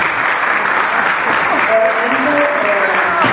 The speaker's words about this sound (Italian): Grazie, intanto vorrei fare un applauso.